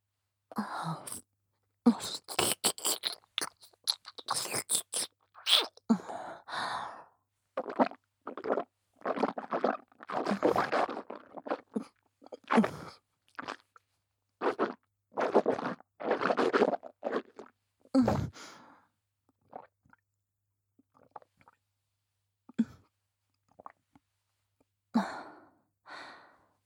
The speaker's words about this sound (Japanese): 恐れ入りますが、咀嚼音の確認をお願いします。 では、いただきます。